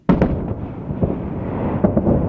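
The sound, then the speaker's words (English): A sonic boom from an aircraft breaking the sound barrier: a sudden, loud, sharp crack followed by a long, rolling low rumble, with a couple of fainter thumps echoing through it. No voices. “That's the sound of an aircraft breaking the sound barrier, a sonic boom.”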